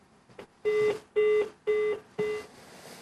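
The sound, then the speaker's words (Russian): Four evenly spaced electronic beeps, each a steady mid-pitched tone lasting about a third of a second with short gaps between, tapped out like Morse code. No talking. “Азбукой Морзе решил.”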